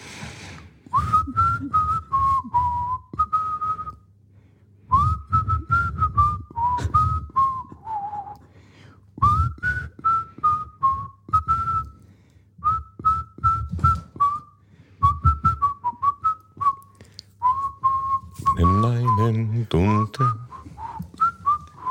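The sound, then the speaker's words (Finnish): A person whistles a pop song melody in several bright phrases separated by short pauses, with a low steady hum underneath and a brief voiced burst near the end. “Meidän pitäisi melkein katsoa ääninauhasta, että mikä, mitä mä yritin viheltää.”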